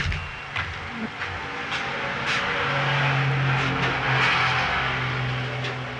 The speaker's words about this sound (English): Was that the truck? No, that's a car.